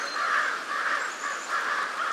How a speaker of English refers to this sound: So, when a mobbing flock of crows teams up on an eagle, they're not only drawing attention and chasing off a potential danger, they may also be giving young crows an important lesson in bird identification.